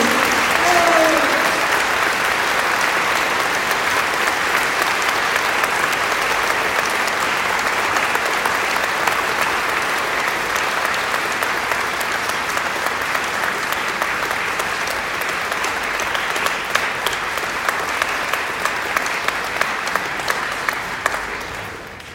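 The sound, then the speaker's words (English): A large audience gives a round of applause to the whole team, clapping steadily for over twenty seconds, a dense, sustained wash of clapping that stays loud throughout with no voices standing out. “That's an amazing note to give a huge round of applause to the whole team.”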